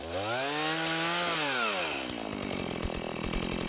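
chainsaw running outside

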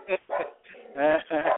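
dogs barking

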